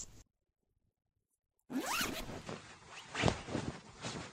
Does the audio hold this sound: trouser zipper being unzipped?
yes